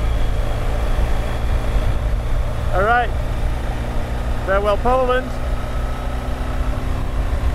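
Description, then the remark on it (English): Wind roars steadily on a bridge between Germany and Poland, a loud, low rumbling gust that never lets up, while a man speaks briefly twice over the noise. “All right, I don't even know if you'll be able to hear me over the sound of the wind.”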